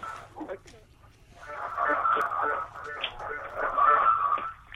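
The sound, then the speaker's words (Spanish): A radio plays steadily behind a caller on a phone line from Matanza, causing an echo, its thin, muffled sound carrying indistinct voices that keep going without pause over the whole stretch. “necesito que bajes la radio porque escuchamos un eco.”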